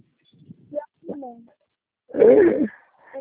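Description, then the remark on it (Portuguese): A dog, just arriving, gives one loud bark after a few soft whimpering or whining sounds, with quiet vocal noises before and after. “É, o cachorro chegou, ela tá vindo.”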